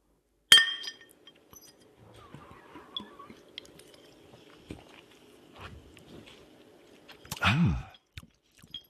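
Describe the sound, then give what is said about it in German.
A sharp glassy clink of bottles of orange soda, carried up from the cellar, tapping together in a toast opens, followed by faint handling and rustling, then a louder clatter and fizzy pour-like burst near the end. No one speaks. “Ja, dann Prost, ne? Ja, Prost.”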